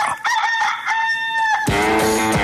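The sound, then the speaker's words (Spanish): A rooster crows loudly, a long drawn-out cock-a-doodle-doo that ends in a harsh, strained burst, with no talking around it; it is the Radioactiva radio rooster call. “El gallo de Radioactiva.”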